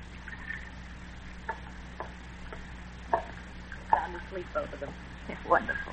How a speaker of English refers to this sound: Is there coffee here? Yeah, I'll pour you some.